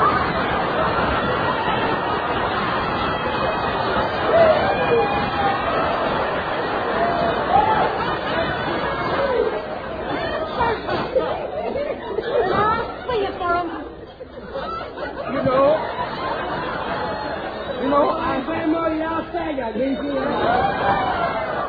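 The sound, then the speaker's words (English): A crowd of many voices chatters steadily at once, a dense hubbub of overlapping talk with scattered laughs and snickers rising through it, holding a fairly even loudness throughout. “Hey, Queenie, there's a crowd gathering.”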